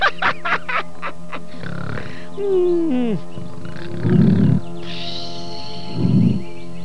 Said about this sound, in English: Professor, you're snoring again. Too loud.